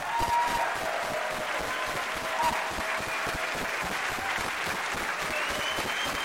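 An audience gives a singer and her group another round of applause, dense overlapping hand claps forming a sustained, fairly loud wash of sound with a few faint whistles or cheers riding on top.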